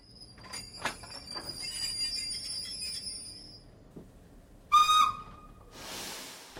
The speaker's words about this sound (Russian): Заскрежетали тормоза. Поезд начал замедлять ход.